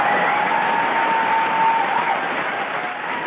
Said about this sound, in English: All right, you get the big applause.